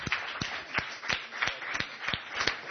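Audience applause welcoming a guest back, with clapping in a steady, even rhythm, about eight sharp beats over a continuous wash of crowd noise, with no talking.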